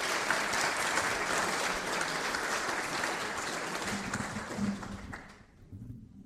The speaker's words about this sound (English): Give her a round of applause to her.